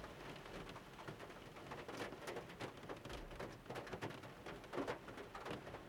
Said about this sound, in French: Et puis là, il pleut, ça va pas nous aider.